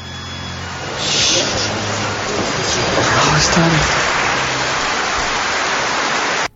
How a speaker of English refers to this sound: Applause. I love applause.